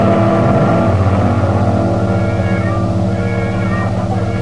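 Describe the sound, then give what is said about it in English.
A car engine hums steadily, a continuous loud drone with a slight rise in pitch partway through, as the car drives along. No voices are heard. “Collins explained it all while they were driving down in his car.”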